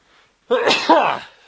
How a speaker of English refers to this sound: Bless you. Yes, I haven't had a sneeze on the show for some time.